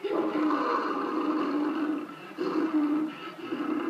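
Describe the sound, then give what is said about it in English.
An African lion roars in the distance in two long, rough, rumbling bursts separated by a brief dip, loud and sustained, with no voices over it. “Off in the distance comes the fierce roar of an African lion.”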